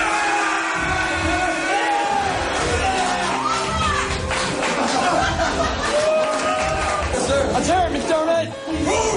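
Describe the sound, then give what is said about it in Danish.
A loud group of police officers in a gymnasium shouts, whoops and cheers over one another as a fellow officer is shot with a taser, a rowdy, continuous mix of overlapping voices and bursts of laughter. “De råber højt. De håner hinanden, hvis nogen viser smerte. Og jubler af dem, der tager skuddet uden at kny.”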